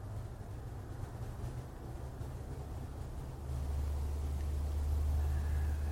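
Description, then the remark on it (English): A steady, low rumble of road traffic fills the background, growing a little heavier and deeper about halfway through as a car passes with a deeper thud. No voices. “So if we sit here quietly, I hear the arising of traffic.”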